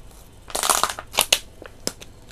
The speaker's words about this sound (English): If you hear that in the show, it was me drinking water bottle. Sorry about that.